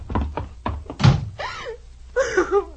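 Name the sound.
door slamming shut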